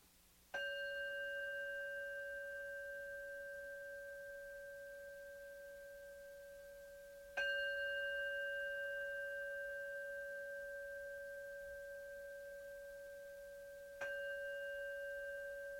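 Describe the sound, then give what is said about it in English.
A meditation bell is struck three times at even intervals, each ring a clear, sustained tone with bright overtones that slowly fades before the next strike. No voices are present. “So follow the sound of the bell, then follow the experience of the breath.”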